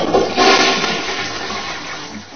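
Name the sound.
toilet flushing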